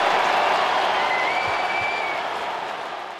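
A large hockey crowd at SAP Center in San Jose applauds Ovechkin's career goal number 887, with Washington leading 5-1, in a steady, dense wash of clapping that stays loud throughout and eases off slightly at the end, with a faint whistle-like tone drifting through the middle.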